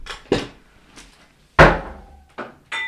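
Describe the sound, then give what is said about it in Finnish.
A sparkling wine bottle with a plastic cork being opened as the first sample of a blind tasting test of champagne versus sparkling wine: a few dull knocks and creaks, then one louder thud as the cork releases without a sharp pop, followed by brief fizzing. “Ei pamahtanut, muovikorkki.”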